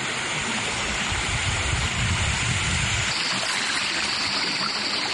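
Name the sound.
flowing river water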